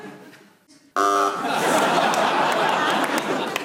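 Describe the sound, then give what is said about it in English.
A single harsh, low-pitched game show buzzer blares for about half a second after a quiet moment as a panellist challenges for hesitation, then a crowd breaks into loud laughter and chatter. “you buzzed.”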